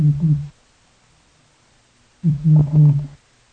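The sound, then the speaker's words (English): A veiled chameleon gives two low, buzzy hooting calls: a short one, a pause of nearly two seconds, then a longer, louder wavering hoot. No voices are heard. “And for the first time, humans listened in on the voice of a veiled chameleon.”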